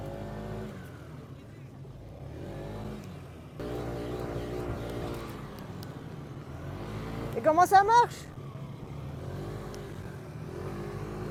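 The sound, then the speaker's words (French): An engine idles with a steady hum, then revs in a few sharp rising bursts without building into sustained acceleration. People talk over it. “Machine de compétition, là, je t'explique pas. Ok. Non, c'est pas possible. Ça n'accélère pas.”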